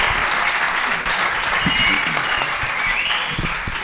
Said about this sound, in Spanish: cantautor callosino que... ¡Aplausos!